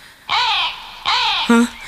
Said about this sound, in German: Was war das? Das war nur ein Vogel. Hoffe ich jetzt mal.